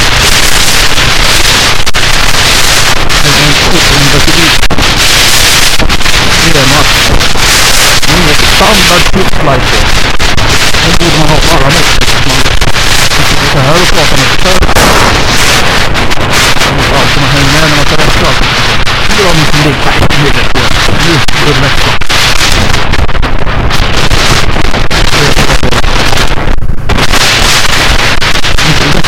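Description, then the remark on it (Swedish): The engine of a 2009 Yamaha V-Max motorcycle roars steadily while riding, loud, with heavy wind buffeting over it and a voice talking faintly underneath. “Motorcykeln jag åker på är en Yamaha V-Max från 09.”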